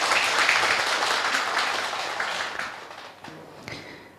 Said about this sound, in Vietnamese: Hãy cho một tràng vỗ tay thật lớn.